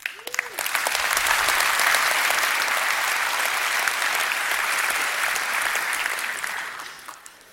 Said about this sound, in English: So I want to take a moment to thank every single one of those that's been involved in Tech Days 2016. So if you join me in giving them a big round of applause, because we couldn't do it without them.